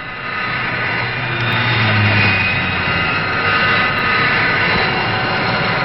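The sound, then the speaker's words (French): A loud, steady jet engine roar of a Vautour all-weather jet fighter at Mont-de-Marsan, where new aircraft are trialled, fills the whole clip, a broad rushing drone with a faint whine on top, swelling slightly midway as the aircraft passes by. No one speaks. “À Mont-de-Marsan, on étudie les conditions d'emploi des nouveaux avions, comme le Vautour, chasseur tout temps à réaction.”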